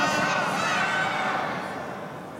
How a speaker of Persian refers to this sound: من مست اسم امام حسنم و این فریادهای شما معلومه که به عشق امام حسن داریم اینطوری فریاد میزنیم.